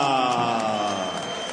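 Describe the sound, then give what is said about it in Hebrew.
An audience applauds Jerusalem city council member Rabbi Pini Ezra steadily with cheers and whoops mixed in, a dense, loud wash of clapping and crowd voices that holds at an even level for the whole moment. “תנו לו מחיאות כפיים שרות לחבר מועצת העיר רבינו פיני עזרא.”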